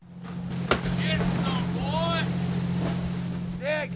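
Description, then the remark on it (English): A crab boat's engine idles with a steady low drone at the fuel dock in Dutch Harbor as the crew prepares for a late-night departure, while scattered high calls and faint voices rise and fall above the constant hum. “At the fuel dock in Dutch Harbor, the crew of the crab boat Northwestern is preparing for a late-night departure.”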